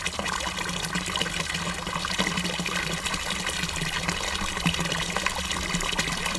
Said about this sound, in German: aus dem Felsen spritzte so viel Wasser, dass die Menschen und Tiere alle genug trinken konnten.